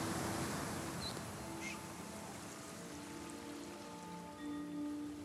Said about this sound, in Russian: Послушай море и засыпай.